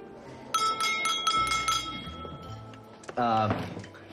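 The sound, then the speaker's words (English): At night at a family's restaurant table, a man taps his drinking glass and stands: a series of quick, light taps rings out with a clear, sustained chime over a low murmur, followed shortly by him starting to speak. “… taps his glass and stands.”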